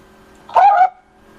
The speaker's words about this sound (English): I think somebody's dog has an opinion on some trade rumors. Yeah, seriously.